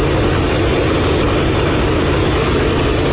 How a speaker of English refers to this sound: old and Canadian, a boxy red and yellow airplane with a boat's upturned prow and two big, loud engines. They're old 1930s technology, Pratt & Whitney. They're 2,100 horsepower each, and they're fairly reliable, and they just keep on clunking along.